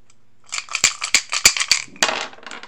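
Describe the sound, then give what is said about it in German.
Dice rattle and clatter in a dice cup as soldiers cast dice for the robe of Jesus, a quick series of sharp clicks building to a louder shake, then a final rolling spill, fairly loud with no voices. “Sie würfeln auch um das Gewand von Jesus.”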